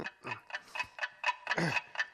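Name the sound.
alarm clock ticking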